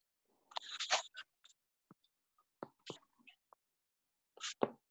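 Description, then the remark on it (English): Quiet rustling of a sheet of paper being handled, followed by scattered soft scratches and taps like a pen writing down prayer requests, with another crinkly rustle near the end. No one speaks. “So now I will get a piece of paper.”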